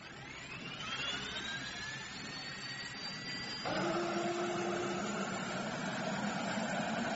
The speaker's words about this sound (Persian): صدای بلند شدن هواپیماش رو شنیدم، اما صدای نشستنش رو نه.